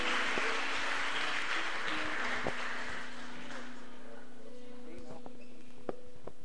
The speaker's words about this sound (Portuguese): Uma salva de palmas, Senhor. Glória a Deus. Aleluia. Amém.